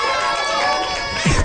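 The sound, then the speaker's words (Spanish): An audience applauds and cheers loudly to show it agrees to hear a song, a dense, steady wash of clapping mixed with excited shouts and whistles that holds for the whole moment. “Bueno, entonces entonces bueno, ya con el permiso de nuestro querido público, vamos a oír esta melodía, pero si están de acuerdo, por favor, un aplauso.”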